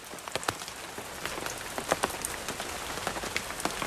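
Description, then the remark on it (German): Steady rain patters onto the dense leaf canopy of a mist-shrouded forest at Monteverde, a dense wash of hiss broken by scattered sharper drips and drops, continuous throughout with no voices. “Ja, und der Regen, der klingt auf diesem dichten Blätterdach meines Erachtens. Also wirklich ganz, ganz wundervoll.”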